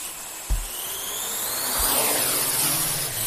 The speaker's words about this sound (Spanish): Ahí están, son los drones, ¿no?